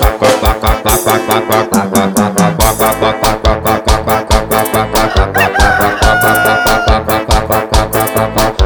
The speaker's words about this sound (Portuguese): Eu vou dar um pau nesse galo.